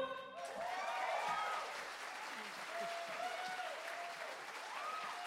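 A concert audience claps steadily for about five seconds after a song, a dense, even wash of applause with a few rising and falling shouts or whoops riding over it.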